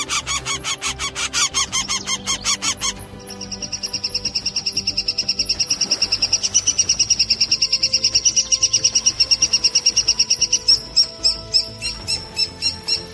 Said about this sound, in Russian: Так звучит голос трехпалого дятла.